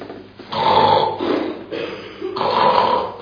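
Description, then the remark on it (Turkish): A voice imitates snoring in three drawn-out, raspy rumbles, each rising and fading with brief gaps between them, loud, with no other talk. “Ama horlaması öteki odadan duyuluyor.”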